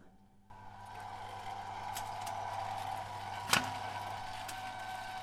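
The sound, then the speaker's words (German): A roller blind in a school classroom is pulled down by the teacher, Frau Halberstadt, because the sun is dazzling, in one steady, whirring rattle lasting several seconds, with a brief sharp clack partway through and a low hum underneath. “Frau Halberstadt hat das Rollo runtergelassen.”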